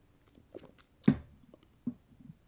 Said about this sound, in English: So I'm going to take another sip of this Pete's coffee that Sound Guy made me get instead of Starbucks, and then we're going to get into the hands.